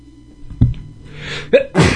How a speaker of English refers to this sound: Don't sneeze, don't sneeze.